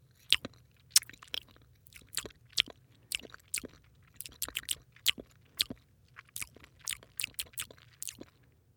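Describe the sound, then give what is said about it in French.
A monkey munches on a banana, with quick, wet chewing and crunching bites repeating in an uneven rhythm, clear over a faint low hum, with no talking. “le singe déguste sa banane.”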